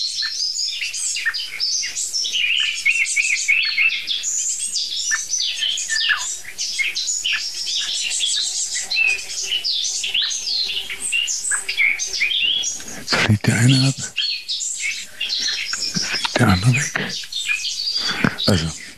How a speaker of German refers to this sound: Ja, jetzt ist die Meise auch genervt.